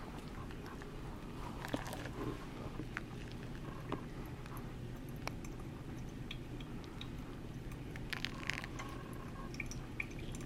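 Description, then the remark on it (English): A slow, steady stream of water trickles from a kettle onto coffee grounds. The water is poured low and slow, bringing it up to 400 grams. There is soft gurgling, bubbling and scattered small drips throughout. It is fairly quiet, and there is no talking. “So the name of the game here is low and slow with the pour. And this is not my kettle, so I'm probably going to be a little bit off, but we're gonna do our best.”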